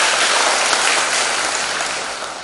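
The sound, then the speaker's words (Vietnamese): A crowd claps loudly and continuously, a dense wash of many hands that stays steady and then tapers off slightly toward the end, with no voices over it. “Cho một tràng pháo tay thật lớn.”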